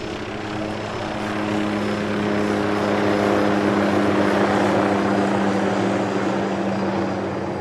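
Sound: helicopter flying overhead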